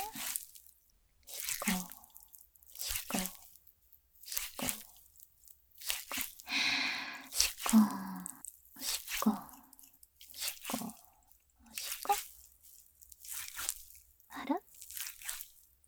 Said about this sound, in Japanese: この泡がぬるぬるして気持ちいいんですよ。これは実際に風俗店のプレイでも使われている泡ローションなんです。あ、ほら、すごい泡。